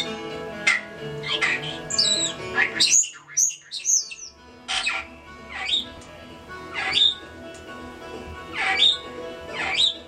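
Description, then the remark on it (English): A pet starling named Carmen chatters and sings in lively bursts of squawks, whistles and rapid chirps over bluegrass music playing steadily underneath. “she just perks up as she starts singing and she starts chattering. And she gives her happy singing sounds.”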